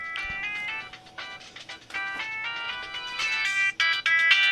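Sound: cell phone ringtone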